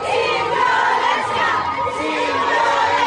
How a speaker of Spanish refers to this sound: Estas pedían marchar en paz, aunque en algunos casos gritaban: fuimos todas.